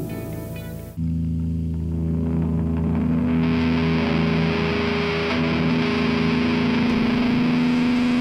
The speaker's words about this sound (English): A little distortion to play us in. Turn it up, man. It's my soul.